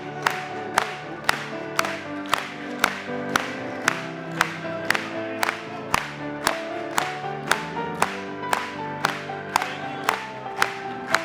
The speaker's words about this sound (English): Clap it to him one more time.